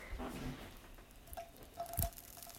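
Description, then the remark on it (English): Water droplets, sprinkled by hand to test the pan's heat before cooking eggs in butter, sizzle and spatter on a hot pan, a quiet, uneven crackling patter with scattered pops and one sharper burst near the end. No voices. “You hear that? That is a sizzle. That means you're ready.”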